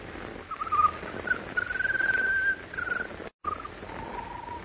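A bird sings a thin, whistling song in a few sustained, wavering phrases over a steady background hiss. There is a brief dropout partway through.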